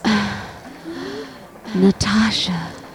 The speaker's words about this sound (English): She gasps.